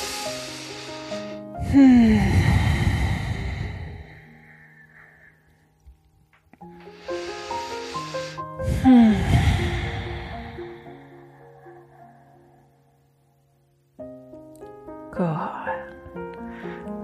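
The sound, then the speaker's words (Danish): Two slow, deep breaths, each a long, loud rush of air in and out, with soft instrumental music playing underneath and no talking. “gentager vi et par gode dybe vejrtrækninger.”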